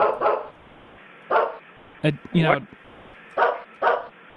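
A dog in the room barks in short, sharp bursts, roughly five barks at uneven intervals with a brief warbling vocal sound in the middle, fairly loud against a quiet background.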